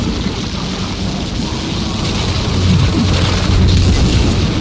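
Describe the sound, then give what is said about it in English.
A lightning strike's thunder in a storm at sea booms as a deep, sustained rumble, swelling louder midway and again near the end, with a hiss like wind and surf underneath and no voices. “Yeah, against all logic, the lightning will seem to be dodging around the sea monster, but surely that's not possible.”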